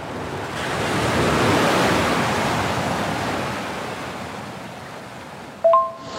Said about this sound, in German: Ich stehe jetzt hier im Atlantik, die Wellen tosen, die Kitesurfer sind in der Luft und das ist ein solches geiles, tolles Erlebnis.